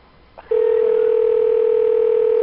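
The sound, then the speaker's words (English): A short click, then a loud, steady telephone dial tone while placing a call through a phone service menu, starting abruptly and holding unbroken to the end, with no talking. “Please enter the phone number you would like to dial, followed by the pound key.”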